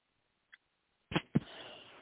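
coughing

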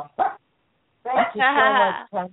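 dog barking

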